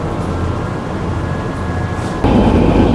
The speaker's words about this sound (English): This station is Moorgate. Change here for Circle, Hammersmith and City and Metropolitan Lines and National Rail Services. This is a Northern Line train terminating at Morden.